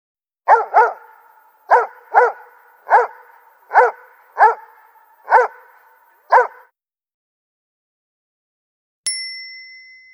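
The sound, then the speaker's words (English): An excited dog named Doug barks eight times in quick, uneven bursts, loud, then goes quiet before a single bright bell ding rings out and fades. “You're a good dog, Doug, says Carl.”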